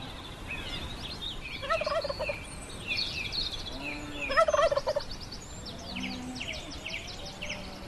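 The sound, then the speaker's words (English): During a turkey hunt, a wild turkey gobbles in rapid, rattling bursts, loudest around the middle, with other birds chirping and calling throughout. No one speaks. “Turkey's laughing at him.”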